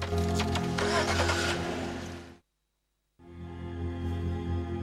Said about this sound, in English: Carrie starts the car's engine and fastens her seatbelt.